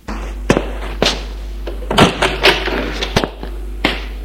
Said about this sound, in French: Elle lui ouvre la porte.